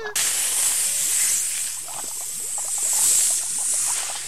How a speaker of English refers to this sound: Stand back. I'm going to spray.